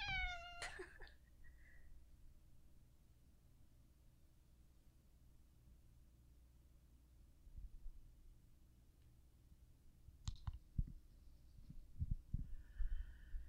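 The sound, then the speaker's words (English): A cat named Pippin lets out a loud meow into the microphones at the start, followed by a softer, shorter meow near the end, with low rumbling handling noise and a quiet background hum between them. “I took a quick break to appease Pippin so he would stop meowing into the microphones.”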